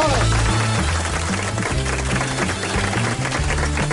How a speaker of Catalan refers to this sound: El soroll dels aplaudiments s'assembla a la pluja? Una mica la pedregada, no? Sí, quan pica contra un vidre, no? Una mica la pedregada. Sí, s'assembla.